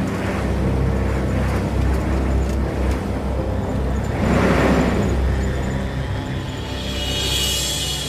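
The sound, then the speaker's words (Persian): A pickup truck's engine rumbles steadily, swelling louder midway as it arrives at a base and Saber's mushroom farm, then settling into a lower idle with a faint hiss. No one speaks. “کامیونتی که رانندش عطاست میرسه به قرارگاه و مزرعه قارچ صابر.”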